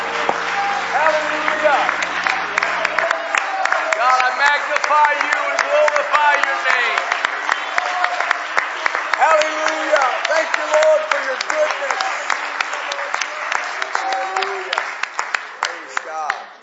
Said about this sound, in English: Praise the Lord, everybody. Would you put your hands together and just clap to Jesus right now? He's worthy of praise. Amen.